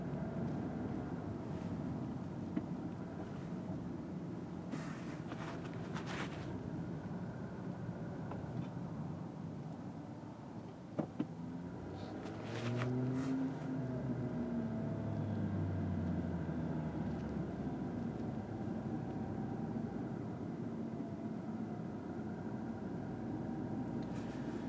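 Steady low road rumble fills the inside of a moving car, with a brief rising engine drone partway through and faint clicks. No one speaks.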